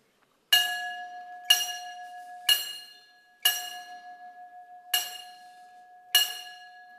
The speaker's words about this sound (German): Ich danke Ihnen recht herzlich und dann beginnen wir jetzt mit unseren 4 und 2 Gongschlägen zur Seilfahrt, so wie es Tradition ist hier bei der Reinoldi-Gilde.